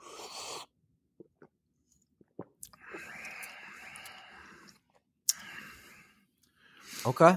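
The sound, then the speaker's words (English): A few quiet mouth clicks, then a drawn-out airy sip of an ice cream float through a straw lasting a couple of seconds, a sharp tap, and another short slurp at the end, fairly soft. “I think we do sip first, spoon taste second.”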